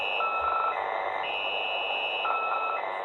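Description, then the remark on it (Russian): A shortwave radio station nicknamed the 'squeaky wheel' by radio amateurs, transmitting around the clock: steady static hiss carrying a repeating pattern of high, squeaky tones that step up and down in pitch, like a creaking cart wheel turning. No one speaks. “Другая станция, прозванная радиолюбителями «скрипучим колесом», круглосуточно передает сигнал, напоминающий скрип вращающегося колеса телеги, периодически также выдавая короткие зашифрованные голосовые сообщения.”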